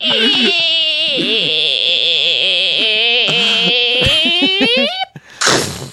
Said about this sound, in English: Anyway, so that's what a black hole sounds like. Is that the first time we've ever got that? Is that the first ever black hole?